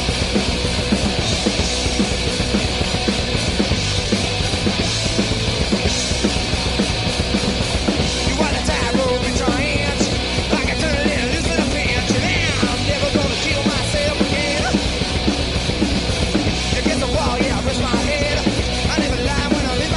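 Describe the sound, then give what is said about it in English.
Dense, loud music from an album's opening track plays continuously with harsh shrieking voices riding over a thick wall of distorted sound, steady and full-volume throughout. “I mean, from the core to the kind of shrieking.”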